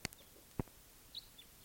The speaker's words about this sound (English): Maybe just one bird. I don't see the bird.